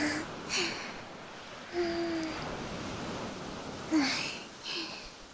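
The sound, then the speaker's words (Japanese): Ocean waves wash steadily onto the shore in a continuous broad rush, with a few louder surging breaks at irregular intervals and some brief squeaky tones over the hiss. “ずっとくっついてたら、せっかく海に来たのに楽しめませんね。”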